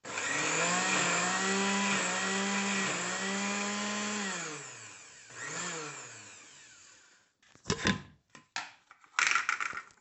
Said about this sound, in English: So I just happen to have this mixture of celery, onions, and parsley, and then I've got some puree, and then I've got a serrano, some garlic, and I'm going to put it all in the blender with a little bit of tomato as well, and the cilantro.